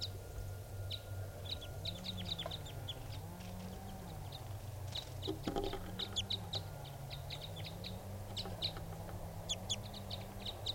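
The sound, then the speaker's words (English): A male-female pair of wild birds, perched low in a small pine tree, call back and forth, mostly the male calling and the female responding: a steady stream of short, sharp, high-pitched chirps and clucks over a constant low droning hum, with no talking. “It's a male-female pair, and they're perched now low in a small pine tree.”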